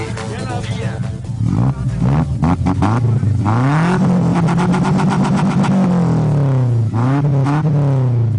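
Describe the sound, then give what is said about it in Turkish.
The engine of a Şahin car fitted with a manifold runs with a steady, loud droning hum, then revs up several times, its pitch climbing and dipping in smooth swells before settling back to idle. “Tamam da hani motorun çalışma sesini de alalım.”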